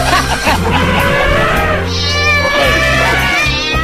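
A voice imitates a cat with loud, drawn-out, wavering meows that run almost continuously for a few seconds, rising and bending in pitch over a steady low hum.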